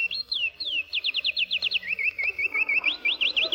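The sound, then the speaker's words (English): A recording of songbirds from Indiana sings clearly and continuously: quick, high whistled notes repeated in rapid trilled phrases, one series sliding down before another rises, with faint background hiss and no talking. “Those were authentic Indiana birds.”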